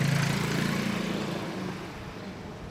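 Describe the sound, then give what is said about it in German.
A small two-stroke scooter engine buzzes loudly, its pitch wavering as it revs, then gradually fades as it moves off down a narrow alley; young men ride mopeds and Vespa scooters through the narrow alleys of the old town of Bari. “Junge Kerle auf ihren Mofas und Vespas schlängeln sich wie Zirkusakrobaten durch die Gassen, durch die kein Auto mehr passt.”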